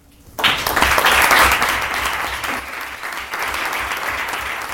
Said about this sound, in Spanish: Tras la entrega de una placa conmemorativa y después del aplauso de los representantes de los grupos políticos, Partido Socialista y Partido Popular, así como del público asistente